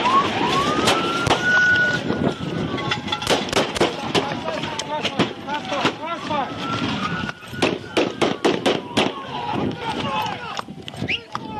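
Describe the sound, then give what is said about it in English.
Loud gunfire erupts in rapid, irregular volleys of many shots as four FPD officers fire at an armed suspect in a truck after an Alaska State Troopers chase on the Richardson Highway, while a police siren wails steadily underneath, with people shouting in the background. “Police Chief Eric Jukes was one of 4 FPD officers who fired at Buck”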